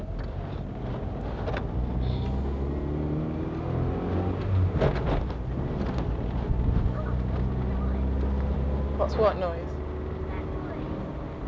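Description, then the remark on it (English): Steady low engine drone from inside a small, old, shaky Metro car on the move, with intermittent rattles and knocks throughout; a voice briefly speaks over the noise. “It's because you're travelling in a metro, you're used to travelling in a Rover.”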